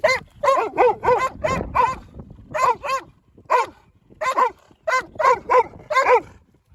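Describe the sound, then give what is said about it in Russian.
A dog, Floki, barks and whimpers as a dog-repelling device with a flashlight and an alarm button is tested on it: loud high yelping cries in quick irregular clusters, roughly fifteen bursts with brief pauses between them and no talking. “Последний наш экземпляр, вот, с фонарем, с кнопкой тут алярм, собаки не убегают, и смотрим, самый мощный, самый сильный, начинаем с Флоки.”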